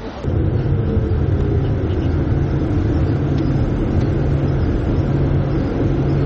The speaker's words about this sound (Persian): اتومبیل ولوو به صورت خودکار با کمک رادار متحرک روی سقفش حرکت می‌کند، راهنما می‌زند، می‌پیچد، سرعت می‌گیرد و ترمز می‌کند. با این حال در بعضی مواقع راننده کمکی نیز دخالت می‌کند.